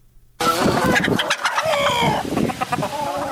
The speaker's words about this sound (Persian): داخل حولی کاگلی در گوشه ای از شهر نیلی مرکز دایکندی در مرکز افغانستان میشویم که در آن زهرا عارفی بیشتر از 1000 مرغ را نگهداری میکند.